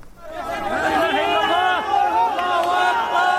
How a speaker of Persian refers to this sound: صدای فریادهای شادی در پی خارج کردن یک نوجوان زنده از زیر آوار در شهر جندیرس واقع در شمال غرب سوریه پس از گذشت بیش از 72 ساعت از زلزله.